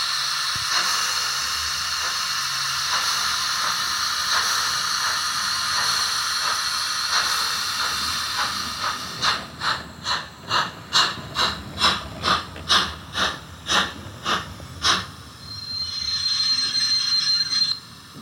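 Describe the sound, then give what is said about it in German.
A model steam locomotive on the track, switched on via digital control with its sound function, hisses steadily, then settles into rhythmic chuffing, about a dozen sharp puffs in a steady beat, before a final loud hiss of steam. No one speaks. “Wir schalten jetzt mal eine Lok ein.”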